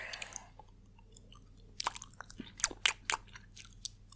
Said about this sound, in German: Das Schmatzen muss weg. Das kann ich aber nicht rausschneiden.